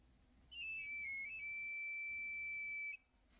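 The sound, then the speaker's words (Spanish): The whistle of a street knife sharpener passing by sounds once: a high, thin tone that wavers and dips briefly, then holds steady for a couple of seconds before cutting off, heard alone. “Está pasando el señor que afila cuchillos. Y se escucha su silbato.”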